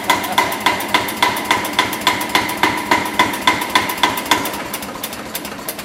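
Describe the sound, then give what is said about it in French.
A tractor engine, just started, runs with a slow, steady knocking beat, about four sharp thumps per second, loud, easing slightly toward the end. Its throttle is set to give the rhythm for accordion playing. No one speaks. “Et j'avais mis en marche le tracteur.”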